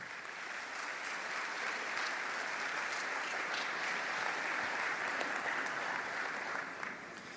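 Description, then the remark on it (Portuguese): Steady audience applause welcoming two invited couples as guests, a dense wash of many hands clapping at an even, sustained level for several seconds, easing slightly at the very end. No one speaks over it. “E recebam esses corajosos convidados para o meu ambiente de casa com a salva de palmas.”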